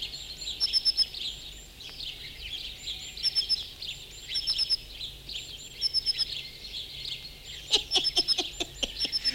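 Birds sing outdoors in repeated bursts of high, bright chirps and trills, with a busier flurry of sharp calls near the end over a soft steady background hiss. No one speaks.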